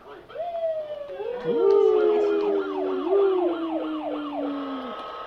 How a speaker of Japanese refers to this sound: 消防車来る？ ね。 あ、消防車。あ。